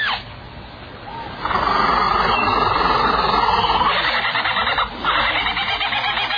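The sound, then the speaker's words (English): A bird mimics the songs of other birds in a loud, dense stream of rapid chattering and trilling calls. After a short quieter start, it carries on almost without pause. “he does that by copying the songs of all the other birds he hears around him”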